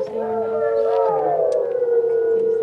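Several wolves howl together in long, overlapping, wavering tones that rise and fall, a sustained chorus filling the whole stretch with no talking.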